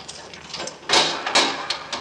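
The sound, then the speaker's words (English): A key rattles and clicks in a Yale lock, followed by a couple of louder scraping thumps as the door of a morgue is pushed open, with no talking. “Here's the keys. You know which one? Oh, can't miss. This is the only door in town with a Yale lock on it.”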